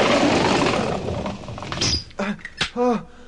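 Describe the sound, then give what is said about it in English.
In Leave It to Beaver, a scuffling, clattering rush of boys hurrying inside gives way to a sharp, solid thud of a bedroom door being shut, with a voice speaking briefly around it. “Boys, inside, quick, shut the door, quick.”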